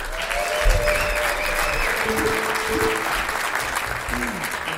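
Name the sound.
audience applause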